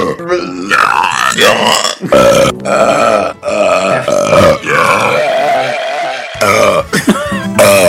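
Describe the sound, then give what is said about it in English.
A run of loud, drawn-out recorded belches, played from a disc, follows one after another for several seconds, deep and gurgling with rising and falling pitch, with no talking. “Here's the disc of belches and the soy sauce.”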